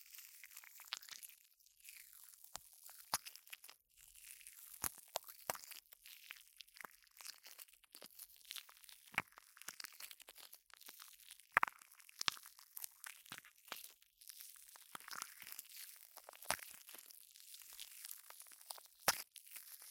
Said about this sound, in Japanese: 最初は普通のジェルみたいな音なんですが、だんだんシュワシュワしてくるんです。シュワリーンな感じの音しません？ほら、シュワシュワしてきた。だんだん音が変化してきますよ。